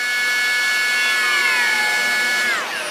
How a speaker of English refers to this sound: Here's a train engine starting up in a crowded train yard before departing across the country.